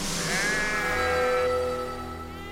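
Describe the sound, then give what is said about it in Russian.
A single drawn-out, plaintive bleat, like a sheep or lamb, coming from inside a sack, steady for a couple of seconds before fading slightly, with no voices around it. “Мешок жалобно заблеял.”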